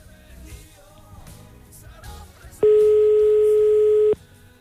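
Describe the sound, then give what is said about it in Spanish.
A phone call rings out on the caller's end: one loud, steady ringback tone lasting about a second and a half, following quieter background music and chatter, with no one picking up. “Hay gente que se le escapa el teléfono. No lo coge.”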